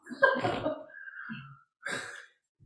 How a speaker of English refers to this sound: So they're already yawning in the background here. You can probably hear them.